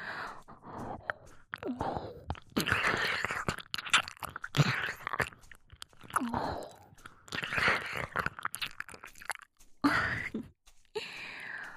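Wet, smacking mouth sounds of ear licking repeat in uneven bursts with soft slurps and sharp clicks, fairly loud, with brief pauses and faint breaths and no talking.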